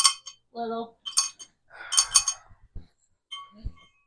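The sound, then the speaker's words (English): Several bright, ringing clinks of glass struck together in place of a bell, fairly loud, with short bits of talking in between. “I need a bell. Oh, I got one. Cheers.”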